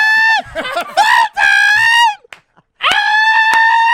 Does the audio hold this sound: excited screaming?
yes